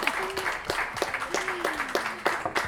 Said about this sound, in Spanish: Pues un aplauso con esa carrera.